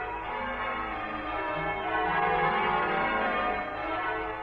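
church bells ringing

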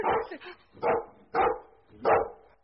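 dog barking

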